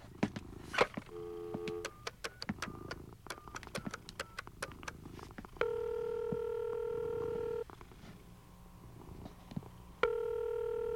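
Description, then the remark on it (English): A telephone is dialed with a few quick keypad tones and clicks, then a steady ringing tone sounds twice through the earpiece, fairly loud, with no one talking. “where's the phone?”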